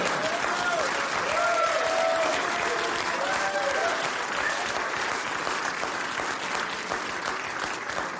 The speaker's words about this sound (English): The newly sighted people are cheering, not booing, because Mr. Beast, whoever the fuck that is, just cured them, and you didn't do shit.